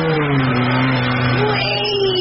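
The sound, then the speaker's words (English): A motorbike engine revs loudly and steadily in a garden, its droning pitch rising and falling slightly as it runs throughout, with no voices. “Sound of a motorbike in the garden.”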